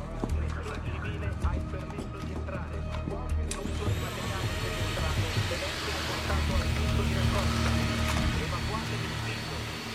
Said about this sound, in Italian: Che stai facendo? A te che sembra? Passo l'aspirapolvere. La moquette è una calamita per lo sporco.